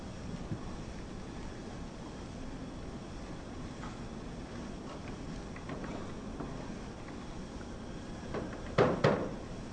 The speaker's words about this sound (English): You like to bang on the shoji door?